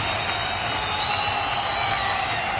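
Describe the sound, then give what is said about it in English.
Sustained applause from a large crowd, a dense, steady wash of clapping that stays loud and even throughout, with no speech over it. “The sound of applause, my friends.”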